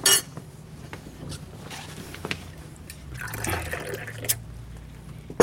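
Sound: shower water running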